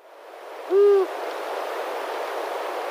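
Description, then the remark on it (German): A single low, steady hoot of an adult owl sounds clearly for about a third of a second, then fades into a soft, continuous rushing background like wind or water. No voices are heard. “Der erste ist der Gesang von der erwachsenen Eule.”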